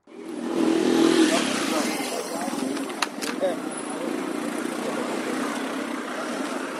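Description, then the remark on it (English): Busy street traffic with motorcycles in Kenya's capital city, with traffic flowing and people going back to work: a loud, steady rumble of engines and passing vehicles fills the scene, with indistinct voices mixed into the din. “After a week of mostly empty streets, Kenya's capital city is coming back to normal. Traffic is flowing and people are going back to work.”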